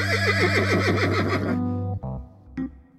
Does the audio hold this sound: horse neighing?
yes